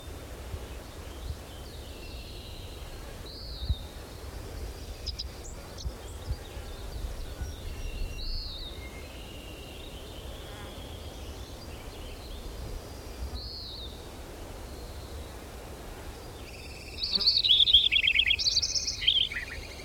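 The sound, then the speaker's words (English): A robin sings in the background, short clear phrases repeating every few seconds before a brighter, busier burst of song near the end, over a low steady outdoor hum. “Robin in the background, all these flies and mosquitoes.”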